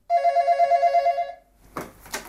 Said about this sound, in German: Und dann, zmitzt im Nuscheln, das Telefon abnehmen.